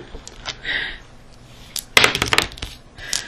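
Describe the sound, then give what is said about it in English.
Dice clatter and tumble across a hard tabletop during a tabletop role-playing game: a few light ticks, then a loud burst of rapid rattling clicks that bounce and settle, with a final short clatter. No voices. “God damn it, I can't roll a d8.”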